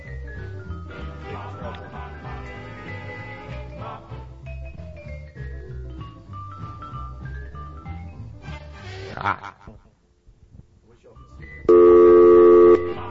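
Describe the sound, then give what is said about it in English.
A loud, steady burst of telephone keypad dialing tones sounds near the end, following a stretch of busy, tonal background with voices and a brief quiet gap. “Actually, this phone gets a little tricky at this point. This thing's on hold. Now how do we do it?”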